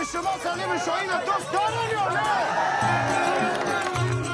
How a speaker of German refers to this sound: Mögt ihr mich, ruft der Filmstar den Leuten zu, die bei den Dreharbeiten zugucken, und die Zuschauer jubeln.